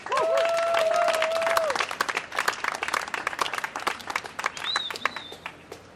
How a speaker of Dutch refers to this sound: En speciaal helemaal uit Arnhem en net terug van vakantie, een hartelijk applaus voor Sarah Dobbe.